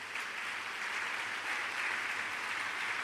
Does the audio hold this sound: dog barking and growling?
no